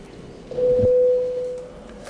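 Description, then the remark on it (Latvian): A parliament voting bell, rung to call deputies to vote on a proposal, sounds as a single steady, mid-pitched electronic tone lasting about a second, starting with a soft knock and fading gently over low background murmur, with no speech. “Lūdzu zvanu.”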